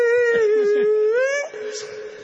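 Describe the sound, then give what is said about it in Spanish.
A voice imitates a city bus (colectivo) braking, likened to a parrot, with one long, steady, high squealing whine that holds for about a second and a half, then trails off into a softer, wavering tail. “Cuando frena hace como un loro.”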